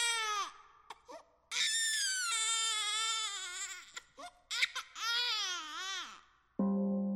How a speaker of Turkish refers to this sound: O sırada sepetin içinden bebeğin çığlığı yükseldi.